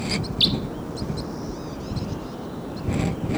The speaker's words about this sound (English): Birds may be coming down. Oh, there they go. Well, here they come.